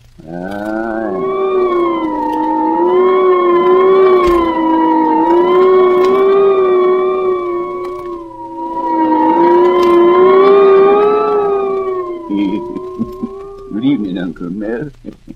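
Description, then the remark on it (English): A voice imitates howling wind in two long, loud, wavering moans that rise and fall, followed by a few shorter choppy vocal bursts near the end. “And let's listen now for the howling of the wind.”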